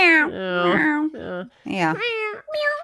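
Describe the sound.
Loud human voices mimic a cat fight, trading drawn-out yowls and rising meows in several overlapping bursts with brief gaps between them.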